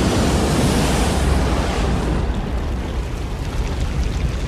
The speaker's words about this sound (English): And then the dam inside of me that's been holding back my anxiety, but the cracks are too much for it. And it suddenly bursts, letting go of all the water that was being held back.